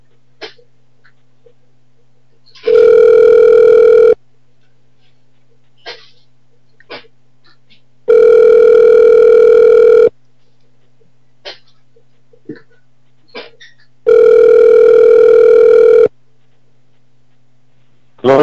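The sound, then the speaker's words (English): A telephone ringback tone sounds three times after a man's phone number is dialed, each steady buzzing ring lasting about two seconds with longer silent gaps between, heard clearly over a faint line hiss with occasional small clicks. “Dialing his number now.”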